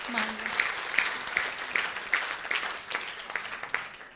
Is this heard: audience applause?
yes